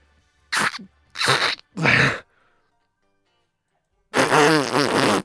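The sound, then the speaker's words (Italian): Someone imitates a kazoo with their mouth, without a kazoo: buzzy noises, three short blats in a row, a pause, then a longer wavering hum that rises and falls like a tune, fairly loud. “E non è facile fare il casù senza casù, eh.”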